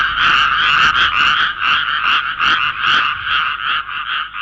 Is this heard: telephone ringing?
no